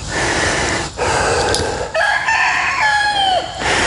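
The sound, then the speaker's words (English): A rooster standing on a golf course crows loudly, a long drawn-out cock-a-doodle-doo with strained, harmonic notes that rise and then bend downward, heard over steady outdoor background noise. “And there's our chicken. Rooster, technically, but.”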